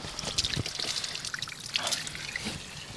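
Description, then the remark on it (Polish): Water from a spring at a pilgrimage site in Gietrzwałd splashes and trickles steadily, a continuous bright, bubbly flow with occasional louder gurgles and no voices. “Jesteśmy przy gieczwałdzkim źródełku. Ksiądz Jarosław Klimczuk, kanonik regularny laterański. Słychać plusk wody”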